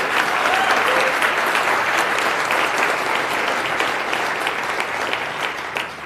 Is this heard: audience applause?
yes